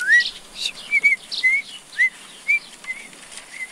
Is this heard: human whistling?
yes